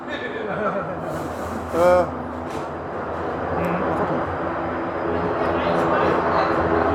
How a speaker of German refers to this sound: Eben mal kurz, der Hubschrauber macht gerade Krach.